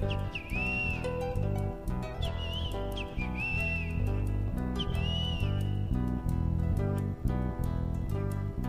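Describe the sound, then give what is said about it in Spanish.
A great kiskadee calls four times in bright, rising-and-falling shrieks, spaced a second or two apart, over a loud, steady band playing throughout. “Grita el bicho feo.”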